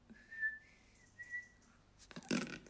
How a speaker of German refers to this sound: Das hat gerade jemand im Flur gepfiffen. Und das ist super strange. Und es hat auch jemand geantwortet. Oder derjenige hat nochmal gepfiffen.